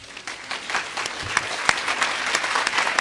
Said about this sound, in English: I have to clap after that one.